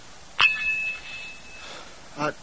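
A telephone bell at Military Intelligence HQ gives a single bright metallic ring that lingers and fades over about a second, followed by a shorter, softer second ring a moment later.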